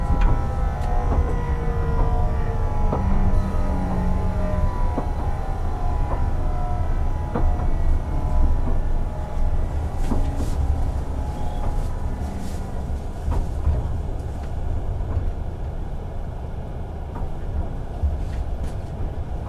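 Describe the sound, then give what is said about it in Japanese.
A local train rolls along with a loud, steady low rumble and a faint whine from the motors, likely heard from inside the car as it nears the station, where the doors on the left side will open. It stops at Nyugawa, Imabari, Iyo-Hojo and Matsuyama. No one speaks. “各駅停車の松山行き、つきまして同じ2番乗り場から18時48分の発車です。まもなく要塞上です。”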